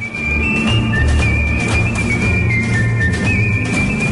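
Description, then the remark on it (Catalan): A bright solo whistle carries a slow, sustained melody in front, while a dense orchestral accompaniment swells steadily underneath, loud and full throughout. “Tornem a tenir el xiulet com a protagonista, però ara amb un acompanyament molt més ric i molt més dens.”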